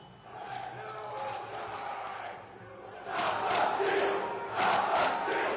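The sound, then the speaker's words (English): A dense crowd of rioters roars and shouts continuously, a chaotic mass of voices that surges louder twice in the second half, as they breach security and push into the Capitol through windows and doors. “By 2:30, rioters breached security and made their way into the Capitol through windows and doors.”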